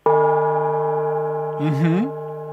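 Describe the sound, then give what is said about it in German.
A single yoga gong strike rings out with a rich, sustained metallic tone that slowly fades, while a brief voice sounds over it toward the end. “Da ist der Yoga-Gong.”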